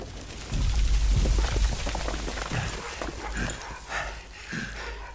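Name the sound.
sled dogs barking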